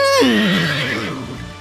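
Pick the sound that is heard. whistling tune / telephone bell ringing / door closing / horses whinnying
horses whinnying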